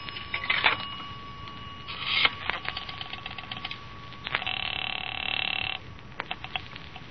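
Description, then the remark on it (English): A telephone call being placed from a phone booth at a filling station to Long Beach: scattered mechanical clicks and clunks of handling the phone, then a sustained ringing stretch on the line, with a faint steady tone underneath. No one speaks. “I'm going to make a telephone call. That phone booth in the filling station.”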